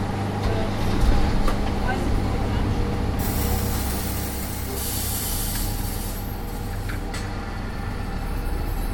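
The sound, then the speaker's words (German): A large truck's diesel engine rumbles steadily, with loud bursts of hissing air brakes partway through as the heavy vehicle gets moving near the Lehmbruck Museum in Duisburg, starting a city tour with 49 people seated in its trailer. “In diesem LKW werden gleich 48 andere Personen und ich an 7 verschiedenen Orten in Duisburg vorbeifahren.”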